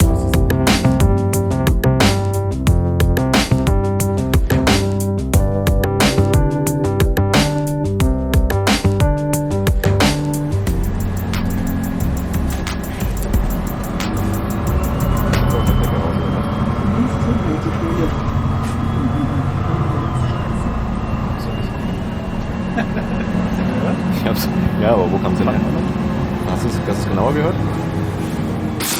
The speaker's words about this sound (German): Schöne Aktion, ehrlich gesagt, immer wieder mit dem Bus zu fahren, um den Sound zu bekommen.